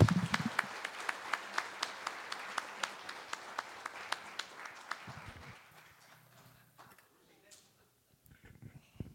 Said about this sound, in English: Everybody, a round of applause for Colin and the great work he's done.